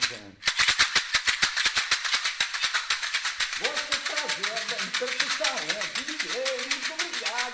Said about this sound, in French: Il y a une tige filetée là, un bout de chute de plastique pour pas que la tige filetée que soit plus agréable si on veut le tenir comme ceci. C'est un chocalho, c'est ce qu'on entend dans les musiques, les sambas brésiliennes.